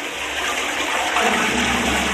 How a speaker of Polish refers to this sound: Nie włącza się też pralki czy zmywarki, jeśli nie są pełne, a idące do toalety dobiera się odpowiedni guziczek, spuszczając wodę.